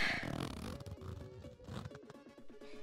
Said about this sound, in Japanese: チャック開けるよ。